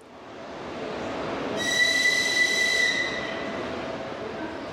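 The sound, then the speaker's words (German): Busy train station ambience at Kyiv's main railway station in Ukraine on an early Thursday morning, with a steady rumble of rolling rail cars, joined midway by a loud, high metallic squeal of train wheels that lasts a couple of seconds before easing off. “Ein früher Donnerstagmorgen am Kiewer Hauptbahnhof.”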